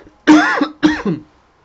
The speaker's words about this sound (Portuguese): Desculpa pela tosse aí.